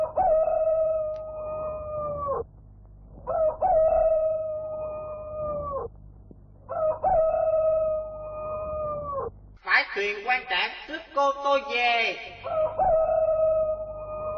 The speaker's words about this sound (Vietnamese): Ngày tháng dần trôi, đến một buổi chiều, cô bỗng nghe tiếng gà gáy ở ven sông.